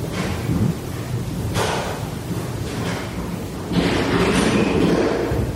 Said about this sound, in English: And it sounds like doors are shutting and cupboards are shutting and people are stomping. I don't know what all that is.